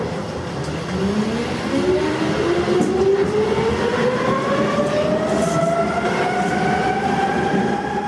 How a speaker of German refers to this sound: Jetzt weiß ich auch, die U-Bahn dreht ihre Runden mit uns durch Berlin. Wirklich gedreht wird sie dabei aber gar nicht.